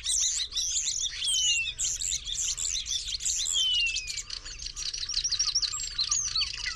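common starling singing

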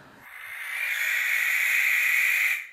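barn owl screech

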